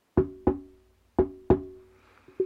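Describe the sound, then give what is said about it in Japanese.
Four solid knocks on a wooden desk in two quick pairs, each with a short hollow ring, followed by a couple of softer taps near the end, recorded with a Fifine microphone. “机を叩いてみます。”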